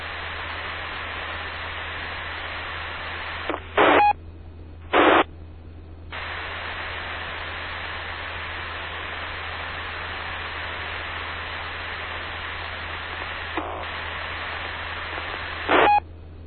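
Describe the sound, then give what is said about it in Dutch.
Steady hiss of radio static on a Dutch amateur radio check-in net fills the whole stretch, broken by a few short bright bursts of squelch and brief drops to quieter hum underneath. No voices come through. “Ik hoor alleen een hele hoop ruis.”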